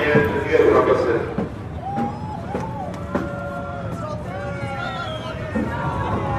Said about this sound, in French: Pourquoi tout le monde crie ? Je pense qu'ils ont démarré les moteurs.